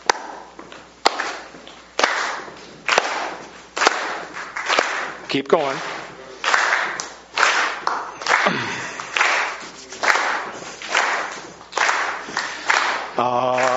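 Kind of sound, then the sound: human body sound, rhythmic stomping and clapping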